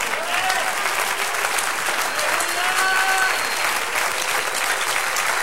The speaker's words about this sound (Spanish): Se encontró uno que es digno de abrir y de desatar los sellos. ¡Un aplauso!